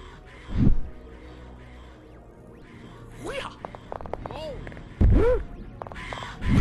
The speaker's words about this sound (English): Let's see what you got, birds.